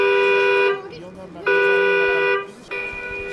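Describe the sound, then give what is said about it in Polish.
The alarm horn of an electrified cargo bike at the National Stadium blares loudly, sounding a harsh, steady electronic tone in three long bursts separated by brief pauses. “To, drodzy Państwo, żaden samochód na Stadionie Narodowym, tylko właśnie rower cargo, tak zelektryfikowany, że jeżeli go tylko dotkniemy, to już może się włączyć alarm.”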